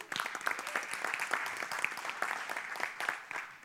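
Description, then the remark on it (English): A crowd claps steadily for several seconds to thank the MDO program, a dense patter of many hands at moderate loudness with no one speaking over it. “So your setup today, you need to say thank you to our MDO program. Just give them a clap.”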